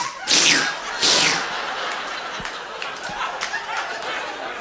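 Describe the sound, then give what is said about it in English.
Two loud, wet, sweeping squelches in quick succession, made with the mouth to imitate Spam sliding out of a can, followed by a quieter stretch of crackly noise and faint clicks. “And meat does not make this sound coming out of a can.”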